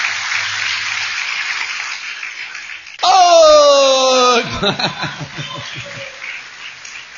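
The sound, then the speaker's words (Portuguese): A church audience applauds the word of God and Jesus Christ in a steady, dense wash of clapping, broken by a loud, sustained shouted exclamation from one voice, then more excited voices mixing with the continuing applause. “Pode aplaudir a palavra.”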